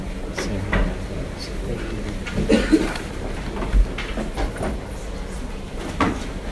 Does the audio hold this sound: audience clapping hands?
no